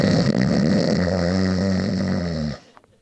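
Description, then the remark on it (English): A voice imitates snoring with one long, loud, rattling snore lasting about two and a half seconds, then abruptly stops, leaving near silence. “Snoring.”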